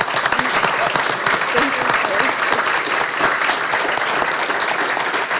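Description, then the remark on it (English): A steady round of applause at a meeting, honoring a departing woman's great service: dense overlapping claps sustained at an even loudness for several seconds, with no speech over it. “I'd like to you to join me in a round of applause for her great service.”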